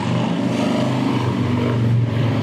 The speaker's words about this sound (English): Gotta love live streaming and loud motorbikes.